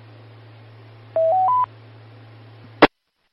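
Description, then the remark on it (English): Three quick telephone keypad tones beep in a rapid, rising sequence over a steady low electrical hum as someone dials to ring a phone, followed shortly by a sharp click before the line goes silent. “I'll ring his phone.”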